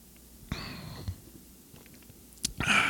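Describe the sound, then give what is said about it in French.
A short slurping sip of beer with a faint whistling edge, a soft gulp, then a quiet pause before a breathy, airy exhale at the end. No one speaks. “Puis j'ai le goût de prendre une autre gorgée de bière. Fait que, attendez un peu, je vais vous en prendre une dans les oreilles avant de terminer.”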